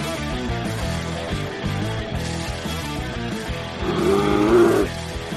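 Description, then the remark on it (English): A person lets out a short, loud growling roar in imitation of a big animal, lasting under a second over steady background music near the end. “No, I was just giving him a spicy roar back.”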